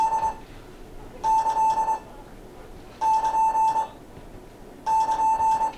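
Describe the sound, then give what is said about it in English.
Morse code 'end of work' signal (the plus sign) sent as a steady, clear beeping tone: one short blip followed by three long, evenly spaced tones with pauses between them. Loud, with no talking. “And we call that end of work, don't we, a plus sign. And I'll send you those to let you hear what they sound like.”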